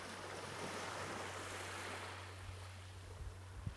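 Ocean waves wash steadily against the shore in a continuous roar of surf, with a faint low rumble underneath and no voices.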